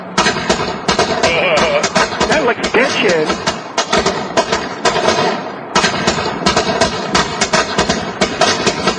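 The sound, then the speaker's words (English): A long, rapid string of firecrackers thrown into a bush pops and crackles loudly, broken by a brief pause before erupting again, while a person speaks briefly over the bangs. “light the firecrackers and throw them in the bush.”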